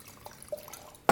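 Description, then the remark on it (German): White wine at 9 degrees poured into a glass: a few faint, scattered drips and small glugs, then a brief, loud splashing gush right at the end. No one speaks. “Blubbert mit 9 Grad ins Glas.”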